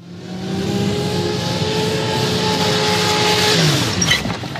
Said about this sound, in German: Er lenkte den Porsche auf die breite Zufahrt und verlangsamte das Tempo. Als er eine kleine Gestalt bei den Kiefern neben seinem Haus stehen sah, trat er heftig auf die Bremse.